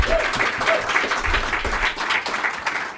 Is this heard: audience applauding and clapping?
yes